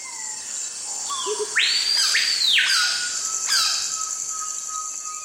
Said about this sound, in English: In the Amazon, heat and humidity virtually smother you. Although a cacophony of bird calls surrounds you, it's hard to see even a single bird.